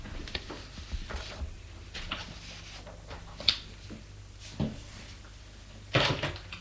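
A door swings shut, with a few soft knocks and handling sounds before a firmer closing thud near the end, moderately loud, with no voices.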